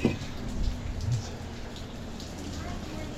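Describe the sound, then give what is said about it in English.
Steady rain falls with a continuous, even hiss throughout, moderately loud, with faint indistinct voices murmuring underneath. “Hopefully you dodge the rain.”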